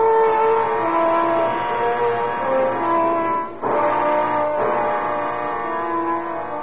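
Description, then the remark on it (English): A car engine revs and pulls away as the car is driven off to the south end of a city, its steady droning pitch climbing before a brief dip, like a gear change, then surging again. No one speaks. “I left the office, got in the car, and drove to the south end of the city.”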